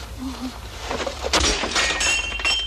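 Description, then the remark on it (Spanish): A sudden loud crash of breaking glass as a thrown object smashes through a pane, followed by a scatter of tinkling shards settling against a low background hum. “Kit-chan ve que alguien pasa tras los cristales y lanza un objeto.”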